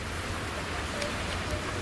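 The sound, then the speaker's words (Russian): A steady, loud hiss of water spraying from a street washer truck that sends a wave of water across the street, a dense continuous rush with no pauses, with a low engine rumble underneath and no voices. “с тем, чтобы ветром не несло землю, соответственно, автомобили, и чтобы вот было чисто на улицах”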